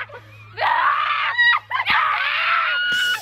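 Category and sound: human body sound, women screaming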